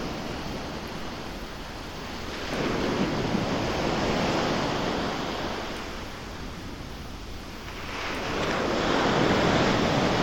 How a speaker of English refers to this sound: In and out. In and out. The sound of waves is a lot like the sound of breathing. It's the sound of creation, and you can almost hear the energy of Source.